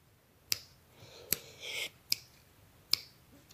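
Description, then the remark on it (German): Four crisp finger snaps at a steady, unhurried pace, sharp, with a softer brushing sound between the second and third snap and no voices. “Dieses Schnippen lässt sich jetzt vergleichen zum Beispiel mit einer Hi-Hat am Drumset.”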